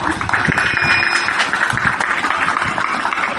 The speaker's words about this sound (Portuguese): Eu queria abrir um parênteses, eu queria uma salva de palmas para a equipe de saúde do ofício.